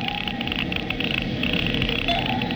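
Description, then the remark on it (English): A Geiger counter reading a bomb dead ahead while going up over a reef crackles with rapid, dense clicking that runs steadily for a few seconds at an even, fairly loud level, with a faint tone humming underneath and no voices. “The Geiger count is clucking like a brood hen.”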